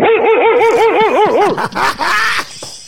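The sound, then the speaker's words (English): A man's voice imitates a dog barking, with a quick rhythmic run of about seven yelping barks followed by rougher, harsher woofs, loud with no other talk. “You start barking like the dog? Yeah, I went.”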